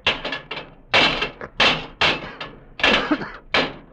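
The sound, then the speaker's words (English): Levers bang repeatedly against locked brass doors in the base of a monument, about eight loud blows in an irregular, urgent rhythm, each a sharp thud with a short ringing decay. “Break down the doors. Well, how? How can we? Here, we'll use the levers.”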